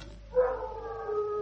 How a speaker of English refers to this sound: A wolf? No, a wild dog. I'll get my gun. It seemed to come from over there, behind the mound.